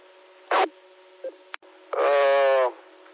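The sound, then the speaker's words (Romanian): Radio repeater tones over a faint, steady hum: a short burst, a couple of quick clicks, then a louder buzzy tone lasting nearly a second. No voices. “sun pe Cătălin să poate face ceva, să schimbe tonul la repetorul ăsta”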